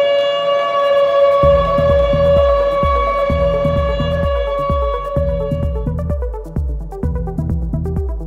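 A steady, wailing alarm siren at a bunker holds several sustained harmonic tones, while a deep, rhythmic pounding pulses beneath it throughout, loud and continuous with no voices.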